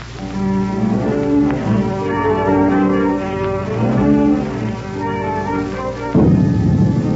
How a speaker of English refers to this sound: Now in the courtyard outside, a thunderstorm is blowing up.